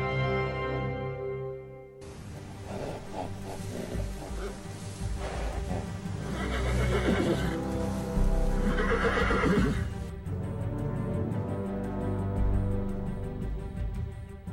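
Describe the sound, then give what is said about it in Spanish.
A young colt gallops with a steady rush of hoofbeats, letting out two loud, shrill neighs midway before the pounding fades into a quieter sustained tone. “Esta es la historia de un caballo, un joven potro de corazón ardiente, con deseos de correr y correr, que lo llevó del desierto a la ciudad a vivir del espectáculo de su velocidad.”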